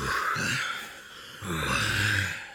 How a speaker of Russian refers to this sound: Ох, что-то я совсем запыхался. Подожди, давай-ка передохнем.